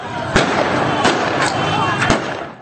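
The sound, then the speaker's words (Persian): Taliban forces fire a handful of sharp gunshots into the air to disperse protesters in Herat, Afghanistan. The shots crack out at irregular intervals, two fired in quick succession near the end, ringing out over a continuous murmur of crowd noise and voices. “اما در نهایت معترضان به آنچه بدرفتاری با مهاجران افغان در ایران می‌نامند با شلیک‌های هوایی نیروهای طالبان متفرق شدند.”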